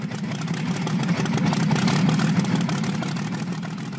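A car engine starts and runs loud, its deep rumble holding steady with slight rises in pitch as it revs, with no voices over it.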